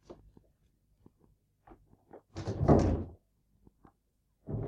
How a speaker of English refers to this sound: Go and open the door.